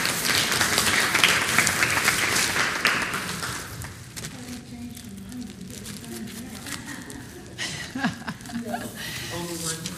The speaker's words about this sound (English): Yeah, y'all want to give her a round of applause so she'll go, come on, Mama.